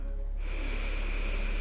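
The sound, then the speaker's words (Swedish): A deep, steady inhale drawn in through the nose, clear, building into a sustained airy rush that lasts over a second with no talking, at the start of a loving-kindness meditation. “Andas in.”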